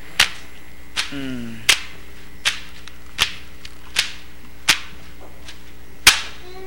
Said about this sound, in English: And now he's doing a double flogging. With these big, heavy whips. Floggers.